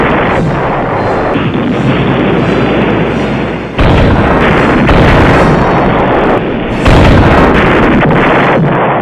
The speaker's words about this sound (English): What next? A terrific explosion shakes the earth.